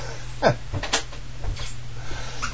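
A door creaks and squeaks on its hinges as it swings open and shut several times in quick succession, with a steady low hum in the background.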